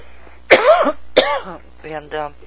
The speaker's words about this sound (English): Sorry, I got this little cough here, but anyhow, I'll thank you so much for the show.